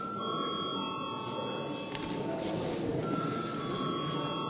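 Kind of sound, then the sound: signal or alarm, parliament voting bell ringing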